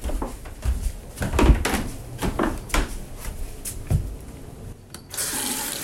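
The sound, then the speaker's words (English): Water runs at a sink while dilators are washed: repeated clattering knocks and splashes for several seconds, then a steady, loud hiss of the tap near the end. No one speaks. “I think I'm gonna get tired of washing these real quick.”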